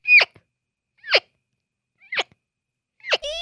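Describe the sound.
Four short, high, squeaky bleats spaced about a second apart, each a quick descending whine: a 9-year-old boy from Dreierwalde imitating a roe deer doe's call to lure a buck, at the Fiepen world championship, where he placed fourth. No talking.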